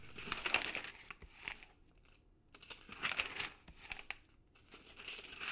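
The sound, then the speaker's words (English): Crinkling and tearing of stiff brown paper as it is pulled off a painting, in several uneven rustling bursts with brief quiet gaps between them and no voices. “We waited nervously while Mum took off the paper.”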